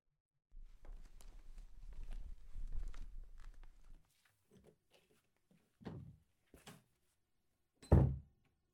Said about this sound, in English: Maybe I'll just make a little extra noise so they get the hint. Our rooms are right next to each other, so there's no way they wouldn't hear me close my door.